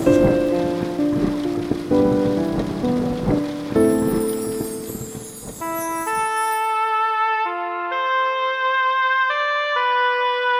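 Steady rain pours with a dense hiss, blended with soft melodic music; after about six seconds the rain falls away and only the gentle, sustained music tones remain.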